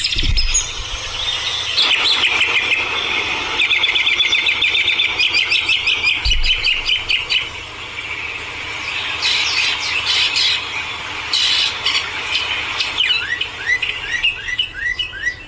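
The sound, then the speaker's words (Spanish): A dense chorus of birds chirping and singing continuously, with bright overlapping tweets and squawky calls, no voices, filling the whole stretch at a steady, lively level. “Muy buenas tardes, como siempre nos gusta iniciar con estos cantos de estos pájaros hermosos y este sonido que a mí me gusta mucho el canto de los pájaros”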